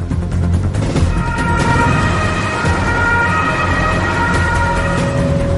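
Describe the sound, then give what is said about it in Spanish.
The siren of a quarantine ambulance rushing a patient to hospital in Dortmund wails steadily and loudly over a heavy engine and road rumble, continuous throughout without any talking. “es trasladada de urgencia al hospital de Dortmund en una ambulancia de cuarentena.”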